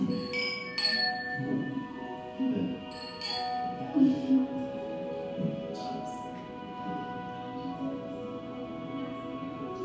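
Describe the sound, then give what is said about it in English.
Glasses clink together a few times in a toast, leaving bright ringing tones that hang in the air over a low murmur of background chatter and room noise. “to outdoing one another and showing honor. Cheers. Cheers.”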